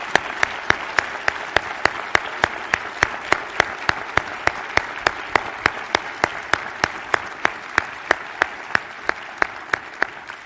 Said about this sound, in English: So, ladies and gentlemen, can I ask you to join me in a round of applause to show our religious how much we love him?